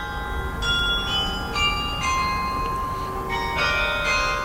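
A carillon of tuned bells plays a slow melody, each struck note ringing out and overlapping the next, heard with no voices and a faint hint of distance.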